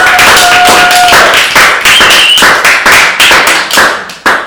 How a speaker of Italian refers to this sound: un applauso